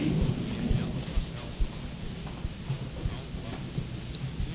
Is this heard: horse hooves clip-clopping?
no